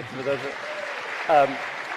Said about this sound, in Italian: So hypothetically, a great opera to begin the year with would be La Bohème. It's true. An opera that we haven't done in almost a decade here. You can applaud.